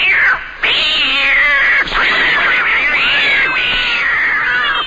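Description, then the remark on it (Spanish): A kitten meows and caterwauls in long, wavering, high-pitched wails, loud, with brief breaks between the drawn-out cries and no voices. “Cada vez que escuchas Game Over, Dios mata a un gatito.”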